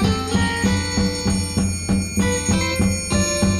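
An instrumental cover version of a pop tune plays at a steady, loud level, with bright chiming bell-like tones ringing over a regular pulsing beat and sustained harmonies, with no singing or talking.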